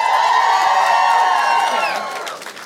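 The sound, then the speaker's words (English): A crowd cheers and whoops loudly, many voices overlapping in a sustained roar for about two seconds before the noise tapers off. It is an audience making noise in answer to being asked whether they believe in the paranormal. “All right, so just curious, make some noise if you do believe in the paranormal.”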